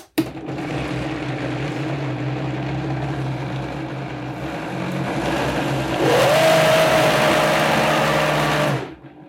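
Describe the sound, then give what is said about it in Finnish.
A blender runs steadily for about nine seconds while making a purée, its motor humming and whirring. Partway through, the pitch climbs and the sound grows louder and harsher before cutting off abruptly. No one speaks. “Mä laitan tämän tänne tehosekottimeen ja käännän sen päälle.”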